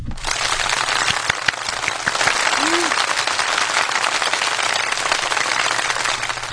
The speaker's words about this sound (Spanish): y le brindamos un fuerte aplauso de bienvenida.